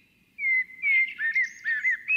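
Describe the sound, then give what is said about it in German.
A songbird sings a lively, warbling melody of quick whistled phrases and trills, clear, with no voices present. “ich habe jetzt einen tollen Vogel für dich, wenn du Schmetterlinge liebst.”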